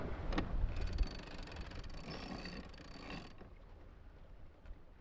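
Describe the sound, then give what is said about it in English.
A winch on a heeling sailboat ratchets steadily as the flapping jib is sheeted in, a fast run of mechanical clicks lasting a few seconds over wind and water noise, then stopping. “I think I need to sheet in the jib.”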